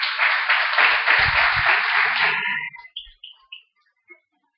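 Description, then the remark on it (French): A burst of steady audience applause, dense and even for a couple of seconds, then quickly thinning out into a few scattered last claps before falling quiet. “Et il faudrait juste qu'on l'encourage en l'applaudissant.”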